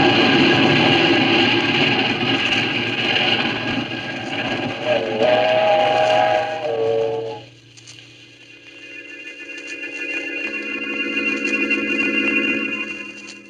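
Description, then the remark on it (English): A train roars past on the tracks, a loud rumbling clatter for several seconds before abruptly dropping away, leaving sustained whistle-like tones ringing behind it. “When the train had passed, I saw what was left of his body on the tracks.”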